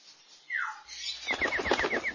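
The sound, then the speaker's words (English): A bird gives a short, sliding call, then its wings flap in a quick, steady flurry of soft beats, with faint repeated chirps over the fluttering. “Is that your bird?”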